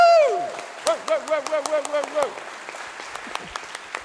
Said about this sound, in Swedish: Nu vet ni, det är många utav er som vet vad en Göteborgskyrkan applåd är. Men en del som inte vet vad det är. Och nu har vi en ny lokal. Hur låter en Göteborgskyrkan applåd för Jesus i House of Gospel-lokalen? Hur låter den? Så låter den!